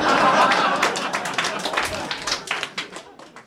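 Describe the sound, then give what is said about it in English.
An audience applauds, a dense burst of clapping at first that thins out into scattered individual claps as it fades over a few seconds. “thank you for applauding.”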